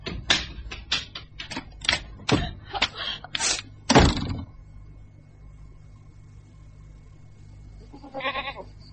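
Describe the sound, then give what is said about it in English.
A burst of sharp, rapid clattering knocks fills the first few seconds, then after a quiet stretch a single short, wavering goat bleat sounds near the end, moderately loud. “Hard cheese for the goat.”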